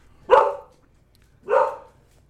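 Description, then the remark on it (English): A dog in a hallway barks twice, two loud, sharp woofs about a second apart, each trailing off briefly, with no voices and near silence in between. “The dispatcher interruption every 3 minutes or your damn dog in the hallway?”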